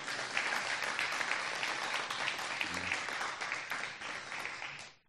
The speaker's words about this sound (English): And a big round of applause for all the people behind the scenes.